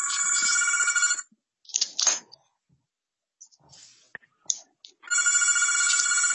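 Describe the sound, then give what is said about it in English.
A phone rings in two bright, buzzy bursts, each about a second long, separated by a pause holding faint clicks and shuffling noises, during the quorum call of a Minnesota House committee meeting. No one speaks. “I hear someone's phone in the background going off.”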